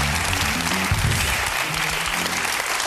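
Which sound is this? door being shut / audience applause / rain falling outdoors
audience applause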